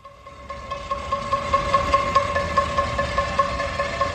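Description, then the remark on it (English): Metal pots and pans are banged in protest across Bogotá, Colombia, during the coronavirus lockdown, over and over in a quick, steady rhythm, their clanging blending into a continuous ringing din with no voices heard. “The banging of pots and pans across Colombia's capital city.”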